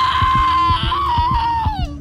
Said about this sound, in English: And then she started screaming.